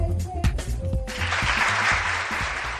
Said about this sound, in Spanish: Y este aplauso porque los vallisoletanos